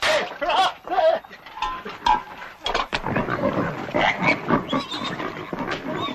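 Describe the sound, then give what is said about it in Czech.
Several Mangalica pigs grunt and squeal in a steady, overlapping jumble of rough snorts, with no pauses and no one speaking, at the Zasavica nature reserve during a Mangalica pig day. “Danas u rezervatu Zasavica dan mangulica, dakle bez holesterola.”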